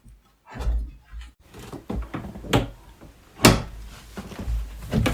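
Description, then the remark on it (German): A sticking door is forced open with a series of scraping, knocking jolts, including one sharp bang midway, sounding stiff in its frame. “Geht die Tür auf? Ja, geht auf.”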